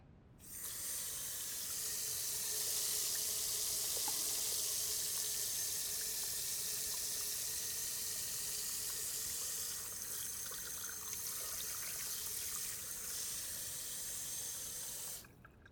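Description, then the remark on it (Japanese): A tap runs steadily as hands are washed with lathered soap beneath the stream, scrubbing palms, backs of hands, fingertips, under the nails, between the fingers and thumbs, a continuous rush of water with faint shifting splashes, no voices, stopping abruptly at the end. “ちゃんと石鹸を泡立てて、手のひら、手の甲を、指先、爪の間、指の間、親指”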